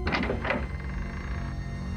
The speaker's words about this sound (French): Oh merde, c'est le vieux truc de la porte qui s'ouvre toute seule.